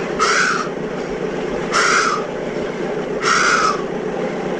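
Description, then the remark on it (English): A voice imitates a horse breathing hard after a run: three harsh, raspy bursts about a second and a half apart, each loud and rough-edged, over a steady background hiss. “And it was fantastic itself, that, because it was sounded exactly like a horse that had been running. And it was sounded like this.”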